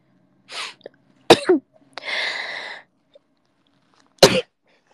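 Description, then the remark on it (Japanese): A loud sneeze bursts right into the microphone, with a quick sharp inhale and noisy exhale, followed later by a second abrupt sneeze-like burst; no talking. “めっちゃ多分マイクド直球だった今のくしゃみ。”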